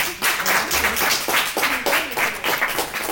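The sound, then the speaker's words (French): A festival audience applauds steadily, many hands clapping in a dense, continuous patter that stays fairly loud and even throughout, with no one speaking over it. “Je trouve qu'on vous a pas beaucoup applaudi en fait.”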